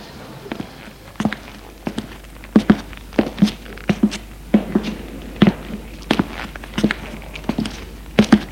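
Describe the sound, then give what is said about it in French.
Quick running footsteps of a man running outdoors to his parents' home thud in a steady, even rhythm, each step crisp, continuing for several seconds with no voices. “Une fois dehors, il court chez ses parents.”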